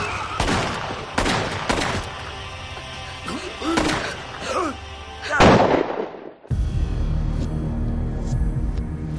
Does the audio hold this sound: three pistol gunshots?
yes